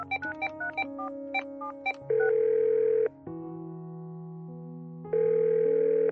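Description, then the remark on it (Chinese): A quick run of electronic key beeps as a mobile phone is dialed, then a steady ringing tone that sounds for about a second, pauses, and repeats for a long time, with no one picking up and no voices. “打了半天手机也没有人接”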